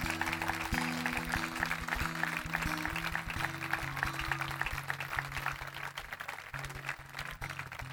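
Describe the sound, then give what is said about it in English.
A standing audience gives God a glory hand clap after a prayer, clapping steadily for several seconds in a dense, continuous patter of many hands, while sustained low keyboard or organ chords shift underneath. “Let's give God a big glory hand clap.”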